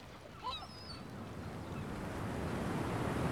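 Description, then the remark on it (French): Ocean waves at Cap Breton surge and roar steadily with biting wind, a broad rushing swell building louder over a few seconds, with faint bird-like chirps near the start. “Le vent mord. Les vagues s'élèvent. L'océan gronde.”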